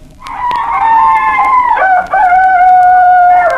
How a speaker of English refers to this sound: The recording introduces just some of the sounds that any backyard chickener would likely get accustomed to when raising chickens and perhaps baby chicks. The following sounds of chickens were recorded by Nicholas Collius.